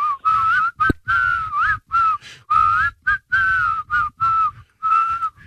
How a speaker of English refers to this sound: It's pretty good on the spot. I mean, can you whistle through your teeth like that?